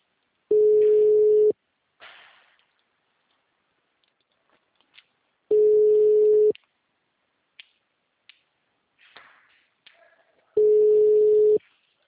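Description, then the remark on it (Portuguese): A telephone busy signal: three loud, steady one-second tones spaced about five seconds apart, with faint clicks and rustling in the quiet gaps between them. “O número está ocupado.”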